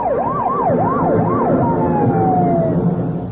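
Police escort sirens wail loudly with a rapid rising-and-falling yelp, then shift into a long steady tone, over a rumble of traffic and engines, escorting a two-tone blue four-door sedan speeding down Pennsylvania Avenue. No one speaks.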